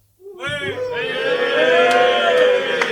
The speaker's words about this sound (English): We want to hear, we would say show of hands, but that doesn't translate well sonically. So let's have a cheer. First of all, no more KDE. Gnome?